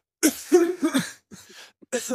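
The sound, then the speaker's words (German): A person with a cold has a harsh fit of coughing in three quick bursts, the first longest and most forceful, with short breaths between and no talking. “Ich muss scheiße husten.”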